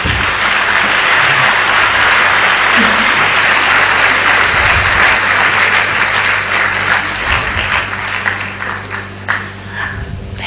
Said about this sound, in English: Thank you, Baba. Clap.